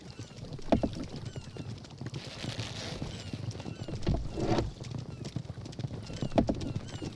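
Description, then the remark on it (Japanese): Horse hooves clip-clop in a steady, busy rhythm, moderately loud, with rustling and splashy background noise around them; a voice briefly murmurs underneath. “そんなローボートで馬に勝てんの？”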